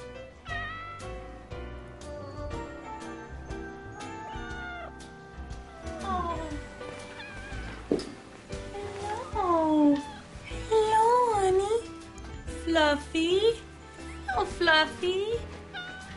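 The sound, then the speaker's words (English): A cat meows repeatedly and insistently, a run of drawn-out, wavering cries, growing louder and more frequent in the second half with short pauses between them. “Oh, you know, feed the cat. Peter doesn't have a cat.”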